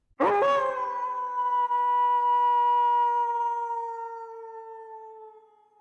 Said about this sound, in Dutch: Een hond. Ja, een hond die huilt. Ja, een huilende hond. Wat zielig. Nee, fout. Oh, wacht. Het is een wolf.